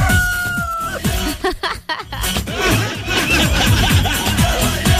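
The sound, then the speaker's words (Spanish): A hen clucks and a rooster crows amid a busy, dense mix, with a long sustained note at the start and voices chattering alongside the birds. “Y la gallina está encantando.”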